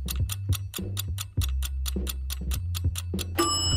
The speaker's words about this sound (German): Der Timer ist abgelaufen.